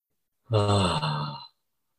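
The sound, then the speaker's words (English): A single drawn-out yawn during a voice and breathing exercise, fairly loud, voiced with a gliding, slightly falling tone and a breathy finish, lasting about a second before silence. “And it goes straight in the yawning.”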